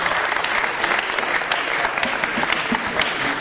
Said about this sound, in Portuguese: Salva de palmas